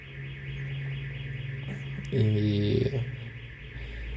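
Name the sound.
car alarm going off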